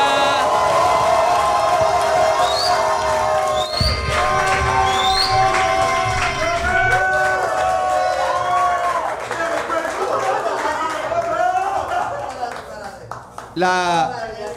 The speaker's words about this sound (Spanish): Fuerte aplauso